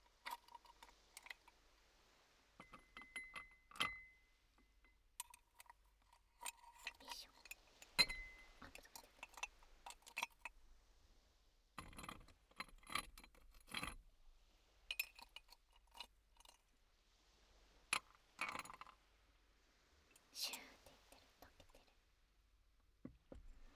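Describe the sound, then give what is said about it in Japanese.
Ice cubes are moved from a mug into a glass for a carbonated drink, clinking and rattling against the glass in scattered bursts of sharp, bright knocks, with irregular clusters and short pauses between them, fairly quiet. “これをグラスに移して、あんまり音変わらなかった。”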